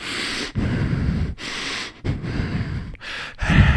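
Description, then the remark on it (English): A voice imitates a man who has sat up after a seizure, breathing hard only out of his nose with his mouth shut: about five loud, rough, rushing breaths in a steady rhythm, each separated by a brief pause, with no talking. “But he sits up and he's just breathing hard, just out of his nose. His mouth is shut.”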